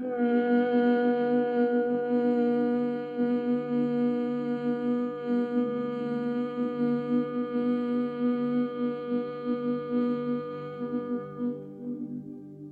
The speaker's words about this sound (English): Then inhale all the way to the top. We're going to hum on the exhale all together. Again, inhale all the way to the top. Exhaling with a hum.